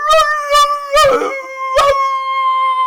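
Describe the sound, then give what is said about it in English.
Human voices imitate two wolves howling in unison: one long, loud, steady howl held for about three seconds, broken by a few short, rough bursts of noise. “All right, and the other wolves see this happen, and they both in unison go...”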